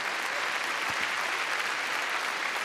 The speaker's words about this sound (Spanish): ¿Sabe qué? Dele un fuerte aplauso a nuestro Señor.